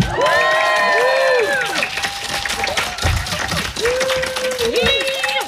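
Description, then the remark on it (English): A crowd applauds and cheers steadily at the mention of the show Firefly, with loud whoops and high-pitched shouts rising over a dense wash of clapping that lasts the whole stretch. “And I'm talking about, he's a writer for such shows as Blood and Treasure, Legacies, La Brea, Agent Carter, Grimm, and of course, hold your applause, please, Firefly.”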